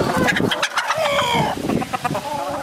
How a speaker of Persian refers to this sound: بیشتر از 1000 مرغ را نگهداری می کند. داخل از او جعبه جای تخم از اینا هستن و اینا خوش داره که زیادتر سر چوب بالا شوه و داخل جعبه تخم بگذاره